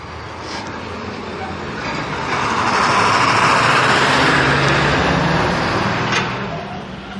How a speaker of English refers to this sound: UPS truck.